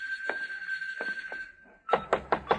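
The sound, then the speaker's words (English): Knocking on a door: a few scattered, softer knocks, then a burst of four louder, evenly spaced raps, with a faint steady hum underneath. “Come on, open up, will you?”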